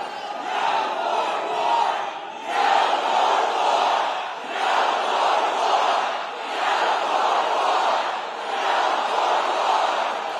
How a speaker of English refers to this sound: And as the crowds continued to chant, no more war, Senator Sanders went on to criticize the administration for launching such an attack without the approval of Congress.